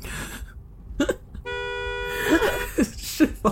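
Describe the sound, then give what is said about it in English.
A car horn blares in a sustained, steady, loud honk, sounded while speeding to catch up to a car ahead on an interstate, while people talk and laugh over and around it. “You get two good honks in”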